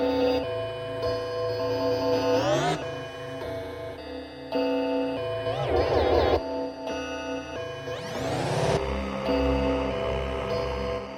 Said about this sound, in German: Sie streicht mit einem Violinenbogen über die Gongs, was einen sphärischen Klang erzeugt.